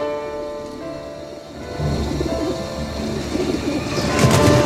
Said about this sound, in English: Panicking, the pigeons all try to take flight, beating their wings against the glass walls.